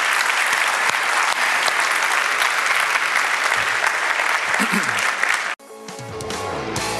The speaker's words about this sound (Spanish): Si Dios le habló, de un aplauso al Señor, que Él se lo merece.